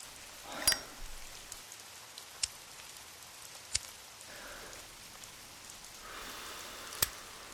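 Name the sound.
rain falling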